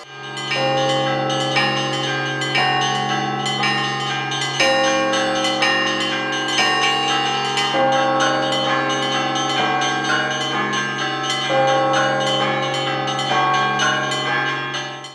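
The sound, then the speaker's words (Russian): Church bells ring out continuously from a bell tower at a bell-ringing festival at the Ioanno-Bogoslovsky monastery, several bells struck in overlapping rhythmic peals that keep a loud, sustained, resonant wash of tones going throughout, with no voices. “Как отмечают организаторы фестиваля, прошедшего в Иоанно-Богословской обители 8 мая, колокольный звон имеет еще и миссионерскую направленность.”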